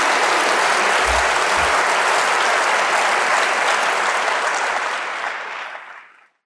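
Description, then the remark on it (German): An audience claps steadily for a speaker who has just answered questions, in a dense, loud wave of applause that holds for several seconds before tapering off and stopping. “Nochmal einen großen Applaus und vielen Dank.”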